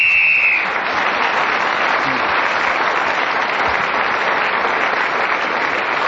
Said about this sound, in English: Well, that final whistle. Not only brought that round to an end, it also has brought the show to an end.